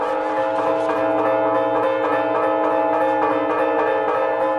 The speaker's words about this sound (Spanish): Los testigos declaran que fue el mayor fuego que se haya visto jamás en la ciudad. Las campanas de todas las torres tocaron a arrebato.